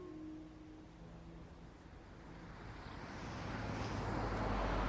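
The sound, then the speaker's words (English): A car speeds past a station, its broad roaring whoosh building steadily from a low rumble to a loud swell at the end, with no voices. “A car speeds past the station.”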